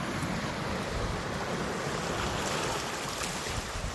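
sea waves

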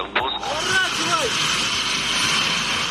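fighter jets flying overhead

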